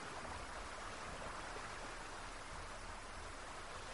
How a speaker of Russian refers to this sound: Славный дождь, замечательный дождь.